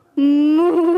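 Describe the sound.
A person voices a single loud, sustained moo in imitation of a cow, a steady hum-like tone that holds for most of a second and rises slightly in pitch.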